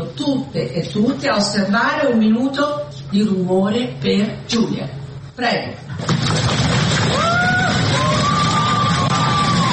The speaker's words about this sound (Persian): این 237 نماینده به یاد جولیا قربانی که الهام بخش تصویب این قانون بود نه یک دقیقه سکوت که یک دقیقه سر و صدا کردند، پای کوبیدند، دست کوبیدند و فریاد شوق از تصویب این قانون کشیدند.